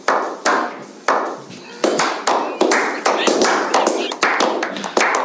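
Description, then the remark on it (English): A church crowd claps steadily for several seconds for a youth minister, a dense wash of overlapping handclaps with sharper individual claps cracking through, loud and sustained with no clear pause. “So let's give it up.”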